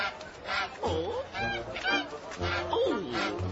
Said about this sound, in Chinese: 哦，乖乖鹅，乖乖鹅，别这样，别这样，好了好了。